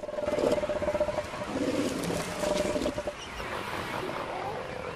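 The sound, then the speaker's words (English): Deep, guttural roars and bellows from two southern elephant seals fighting amid a penguin colony in South Georgia, loud and continuous for the first few seconds, then easing into a rumbling, noisy background of animal calls. “Two of the elephant seals tower over the surrounding penguin colony as they do battle with each other.”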